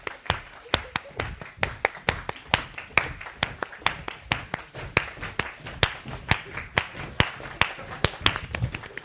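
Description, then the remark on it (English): A group of people claps along with a speaker in a steady, brisk rhythm, some also shaking keys, the sharp claps blending into a fairly loud, continuous pattern of rhythmic clapping with some scattered extra taps. “Right, I'm going to start clapping.”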